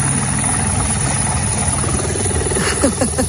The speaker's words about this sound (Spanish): ha estado muy cerquita de este helicóptero esta mañana en Villaverde, que un helicóptero que sonaba así, mira.